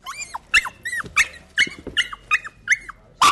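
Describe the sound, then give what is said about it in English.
High-pitched yapping from chihuahuas in an overcrowded animal shelter in the San Fernando Valley, Los Angeles: about nine sharp barks in quick, uneven succession, loud, with no voices. “Nearly 5,000 chihuahuas are jammed into overcrowded L.A. shelters like this one in the San Fernando Valley.”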